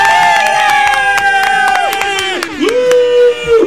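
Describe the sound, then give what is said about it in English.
A loud, dense crowd cheers and screams continuously, with high shrill whistles and voices rising and falling throughout, like an arena roaring for a performer. “You know, you don't have that crowd noise anymore.”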